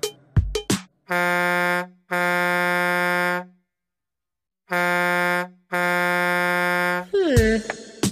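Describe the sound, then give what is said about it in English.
A loud air horn on a big truck blasts four times in two pairs, each long, steady and brassy, with a short gap inside each pair and a longer pause between them. “What else goes honk honk? A nose. That doesn't seem right either. Oh, a truck.”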